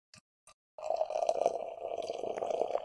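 Two quick clinks, then hazy beer pours steadily into a glass with a continuous gurgling, fizzy rush, moderately loud, lasting a couple of seconds with no talking.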